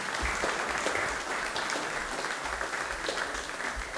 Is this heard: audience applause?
yes